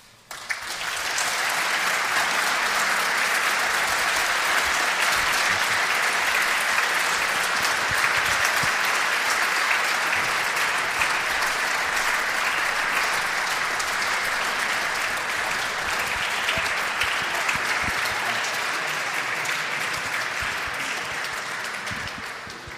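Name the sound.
audience applauding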